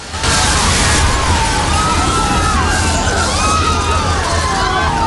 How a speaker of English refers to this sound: Passengers are hurled through glass panels as the train crashes.